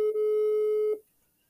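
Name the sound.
telephone call ringing tone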